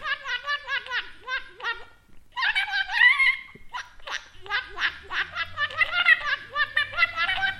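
A water-filled radish blown like a wind instrument gives bright, warbling whistle tones in quick bubbly pulses, the pitch wobbling up and down, with a brief pause before the trilling resumes.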